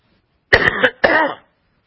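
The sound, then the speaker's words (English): Two harsh coughs in quick succession, each a broad raspy burst lasting about half a second, with silence before and after and no talking. “I'm not alone in my coughing.”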